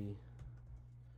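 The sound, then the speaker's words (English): A few quick, soft keystrokes tap on a laptop keyboard, faint, over a steady low hum. “Start typing.”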